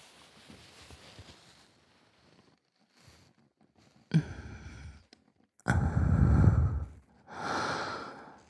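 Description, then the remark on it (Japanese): Hot, moist breaths exhaled right into the ear, a few long airy puffs of rising loudness, the last ones heavy and breathy, with soft rustling between them and no speech. “熱っぽく湿った吐息だけで耳が甘く染まっていく。”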